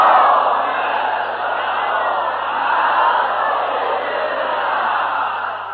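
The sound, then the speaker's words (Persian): A large crowd loudly recites the salawat, the blessing on Muhammad, in unison, a continuous wall of many voices holding steady for several seconds without pause. “صلوات بلند بفرسته در محمد.”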